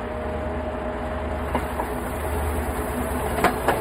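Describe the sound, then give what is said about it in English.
A train rumbles along steadily, heard from on board, with a low continuous drone and a few sharp metallic clicks from the wheels on the rails. “So we're seeing the train leave what is presumably a stop, maybe the train yard, right?”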